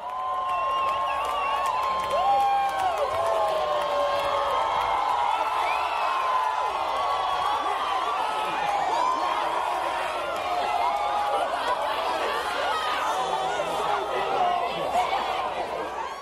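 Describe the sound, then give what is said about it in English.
A large crowd in Salem, Oregon erupts in sustained cheering, whoops and excited shouting as the 2017 total solar eclipse reaches totality and the moon's shadow obscures the sun, with scattered applause and overlapping voices holding loud and steady throughout. “we're going to hear a crowd in Salem, Oregon in 2017 react to the moment when the moon's shadow obscures the sun during the 2017 total solar eclipse.”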